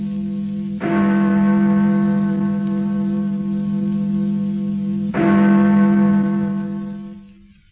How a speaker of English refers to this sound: And therefore, never send to know for whom the bell tolls. It tolls for thee.